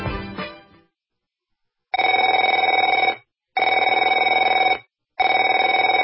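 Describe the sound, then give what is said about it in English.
A telephone rings three times in long, steady bursts separated by short pauses, loud, following a brief clattering noise at the start; no one speaks. “Afraid to answer it? Afraid to answer your door?”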